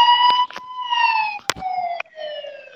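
A siren wails steadily and fairly loudly, its pitch slowly sliding downward, while a few sharp knocks and clicks break in now and then.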